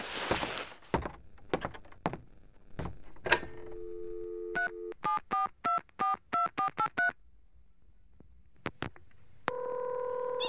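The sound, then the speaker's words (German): A telephone receiver is picked up with a few clicks, a dial tone hums, then about ten quick touch-tone beeps are keyed in a steady rhythm to call a taxi, followed by a ringing tone on the line. “Dürfte ich uns von Ihrem Telefon aus noch ein Taxi rufen?”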